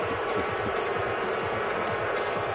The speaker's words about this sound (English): I do hear some thumping. I imagine that is a trash can someone acquired from the concourse.